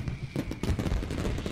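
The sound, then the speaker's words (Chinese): Fireworks pop and crackle in a dense, continuous volley over an amusement park, watched from the Ferris wheel, with several heavier bursts rising out of a rumbling, noisy background. “真的有烟花，好漂亮啊！”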